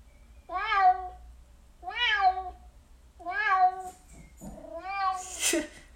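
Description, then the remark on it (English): A smart speaker (Echo) plays a cat meowing four times in a steady sequence, each call a drawn-out, rising-and-falling cry, fairly loud, with a brief rustle near the end and no talking. “What noise does a cat make?”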